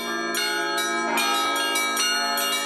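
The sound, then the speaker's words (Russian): Church bells ring steadily and loudly, struck roughly twice a second with rich, overlapping metallic tones that hum and sustain between strikes; no voices are heard. “Колокол был и остается единственным музыкальным инструментом, который используется в православном богослужении.”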